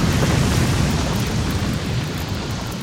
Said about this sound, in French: Et les réserves de poudre du navire amiral de la flotte française en flammes explosent, coulant le navire.